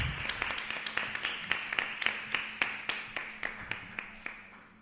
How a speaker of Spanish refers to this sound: Muy bien. Bueno, un aplauso ahí, hombre.